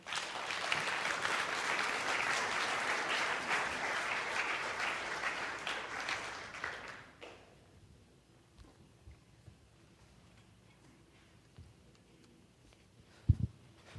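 An audience claps steadily in a dense, loud round of applause for about seven seconds, then it fades out, leaving quiet room sound and a single sharp knock near the end.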